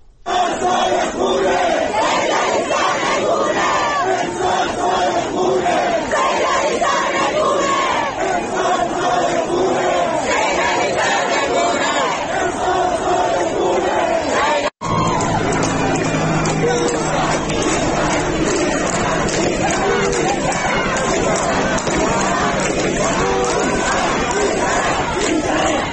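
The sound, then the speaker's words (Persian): A large crowd of protesters in the streets of Iraq chants slogans in loud, rhythmic unison, voices blending into a dense roar that holds steady throughout, with a brief cut partway before the chanting resumes. “این صدا از عراق هست، مردم معترض، یعنی اونجا هم از آرامستان عراق فراتر رفته، در خیابان ها مردم معترضن که شعار میدن”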